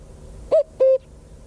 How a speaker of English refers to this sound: The cuckoo heard across the fields in the Midlands of Ireland is saying, who is the housing czar and what will they be doing?